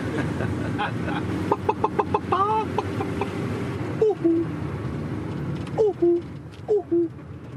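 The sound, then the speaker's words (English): A person in a minibus imitates a chicken: a quick run of staccato clucks, then a few drawn-out, falling bawks spaced apart, fairly loud over a low background rumble. “Now, if you want, I can do a couple of sounds. I can do the chicken.”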